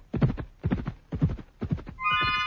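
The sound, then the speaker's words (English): A horse gallops past in four heavy, evenly spaced hoofbeats, loud, then breaks into a high, shrill neigh at the end. No one speaks. “They could keep it up for hours, that ponderous, earth-shaking gallop.”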